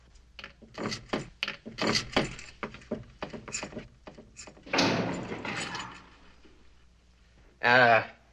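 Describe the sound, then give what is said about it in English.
A conference room door is unlocked and opened: a quick series of metallic clicks and rattles from the lock, then a broad rush as the door swings, with a short creak near the end. “Well, in the meantime, it will be my pleasure to unlock the conference room door and let you gentlemen get on with your work.”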